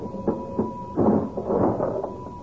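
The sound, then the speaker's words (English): A cash register at Quilby's Variety Store in Whistler Vista, in the radio show Fibber McGee and Molly, rings up a customer's purchase: a few short mechanical clunks and then a longer rattling churn, with a thin steady ringing tone held underneath the whole time. No one speaks. “My goodness, I heard that cash register ringing all the way downstairs in the stockroom,”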